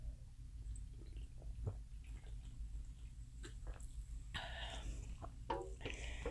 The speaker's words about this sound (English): Just one moment. I need to take a sip of soda.